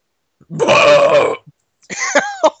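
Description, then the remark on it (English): A loud, drawn-out belch rumbles for nearly a second, followed after a brief pause by a shorter, croaky burp-like sound with a couple of sharp clicks. “That's their official corporate slogan, by the way, with just one giant belch.”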